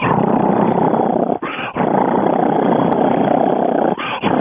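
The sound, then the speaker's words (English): A voice imitates a loud, rumbling cheetah purr, a continuous throaty growl sustained for several seconds with two brief breaths breaking it, forceful. “Probably the biggest cat that purrs is the cheetah. A cheetah will purr. It's so loud you'll think it's roaring.”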